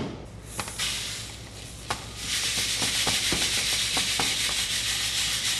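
A Customs and Border Protection officer shakes samples of organic wheat from Argentina back and forth in metal sieves, checking for pests: dry grain rattles and hisses, starting with a few scattered ticks before swelling into a steady, gritty rush dotted with small clicks.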